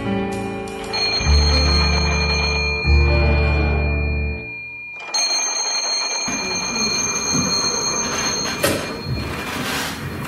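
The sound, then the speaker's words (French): A telephone rings at the Surrey police station on 4 December 1926, about to be answered by Inspector William Kenward, in two long bursts with a brief gap between them, a loud, buzzing tone, followed by clattering handling noises and a steady background hiss. “Nous sommes le 4 décembre 1926 au commissariat de Surrey quand l'inspecteur William Kenward s'apprête à recevoir un coup de téléphone. Ah ! Ça sonne !”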